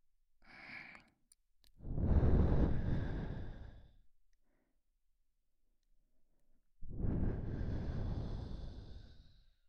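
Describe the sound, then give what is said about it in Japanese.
A short puff, then two long, warm exhalations blown softly into the ear and down along the neck, airy and hissing, with a few seconds of silence between them and no talking. “耳元から首筋にかけて温かい吐息が伝わるとたまらんじゃろう。”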